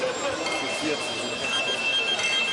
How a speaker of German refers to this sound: Alle machen ihre Klingeltöne an. Klingel, Klingel. Geht nicht.